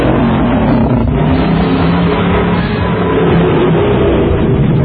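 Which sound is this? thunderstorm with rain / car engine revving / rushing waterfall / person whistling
car engine revving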